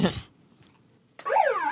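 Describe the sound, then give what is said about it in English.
A short electronic tone cuts off, then after a pause a loud home alarm siren, the Prudential Alarm siren, plays from a megaphone, its harsh buzzy pitch sweeping up and down in a warbling pattern. “Yeah, the Prudential Alarm, that's the Prudential Alarm siren you'll hear in your house.”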